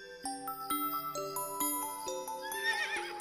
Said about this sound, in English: Who is that? That's a horse. Horse. Horse starts with H.